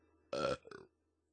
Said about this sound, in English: He burped loudly.